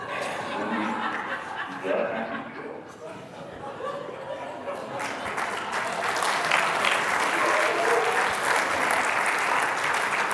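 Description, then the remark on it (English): An audience claps, starting as a loose patter under murmuring and laughter, then swelling around the midpoint into steady, dense applause that stays loud to the end. “Now y'all are clapping because you're like, that would be awesome, wouldn't it?”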